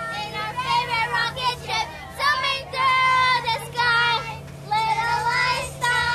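A group of children sing a bouncy tune together in short, high-pitched phrases with brief pauses, over the steady low drone of a bus engine.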